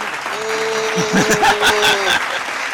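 Steady audience applause of many hands clapping, fairly loud and continuous, with a few voices calling out and a brief sustained vocal tone riding over the clapping.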